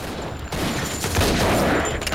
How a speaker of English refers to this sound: As Hatcher's men try to shoot him out, Beck runs behind another pool table.